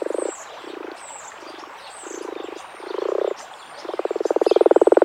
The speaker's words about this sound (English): In the spring. Then you have every chance of seeing or hearing the common frog.